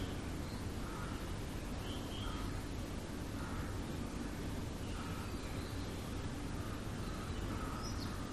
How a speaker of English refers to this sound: The birds are singing, the sun has risen, the trees are basking in the sun rays,